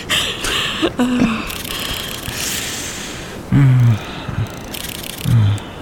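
A camera shutter clicks several times at irregular intervals, each a short, sharp mechanical snap, over a steady hiss with a few low warbling calls in between.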